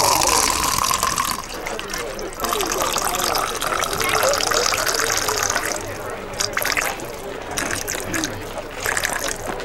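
A man unzips and urinates directly into a mug: a steady, splashing stream of liquid runs for about ten seconds, loud and continuous, with a bright hissing edge and slight changes in tone as it pours.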